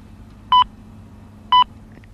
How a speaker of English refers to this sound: And when you hear the time signal for 11 o'clock Eastern Standard Time, gentlemen, it will be exactly 11 o'clock.